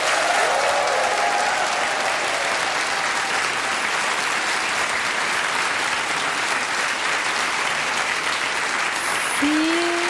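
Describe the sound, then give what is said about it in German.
Loud, sustained applause from a large live audience at a crime-fiction festival in Braunschweig, Germany, held in the school hall of the Martino-Katharineum; a dense steady wash of clapping with a few faint whistles near the start and end. “Ein Applaus, wo man einen Schuss gar nicht hören würde, wenn jetzt jemand ermordet worden wäre.”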